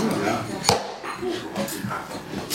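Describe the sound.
A single sharp, hard knock of a gavel opens the council meeting of the municipality of Haarlemmerliede en Spaarnwoude on 29 May 2018. It cuts through a low murmur of voices, followed by softer rustling and faint chatter.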